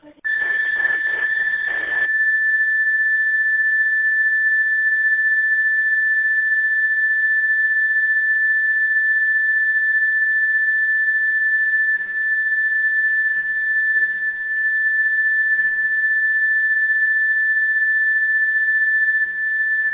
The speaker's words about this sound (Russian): не ту кнопку нажал, ты тон нажал, слышно тебе бы. Вау, не то нажал.